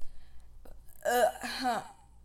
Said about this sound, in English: Took pride in that burp.